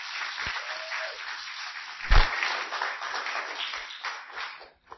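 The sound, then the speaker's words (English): A crowd applauds the children in a steady, dense wash of clapping that runs for several seconds, with one louder thump partway through, before the applause quickly dies away at the end. “Can we all give them a round of applause?”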